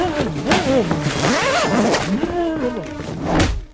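A bag zipper rasps shut in a few quick strokes as a person is shoved inside the bag, the whirring pull rising and falling in pitch, with a muffled, whining vocal sound underneath.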